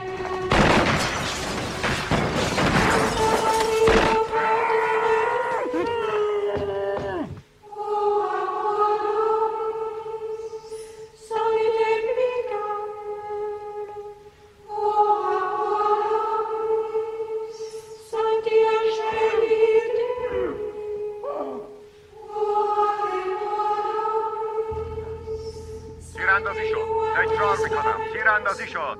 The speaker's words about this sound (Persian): تیر اندازی شد، تیر اندازی شد. حمله کنید، حمله کنید.